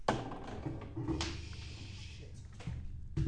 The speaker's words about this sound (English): So you knock down a die, you knock down a soda.